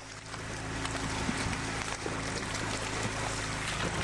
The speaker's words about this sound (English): Dear Lord. Now, well, I'm afraid that's it sounds like the sound of the flying version variety of species of the Asian carp. The carp can grow up to 4 feet in length and up to 100 pounds, but some of the species are smaller, and when startled by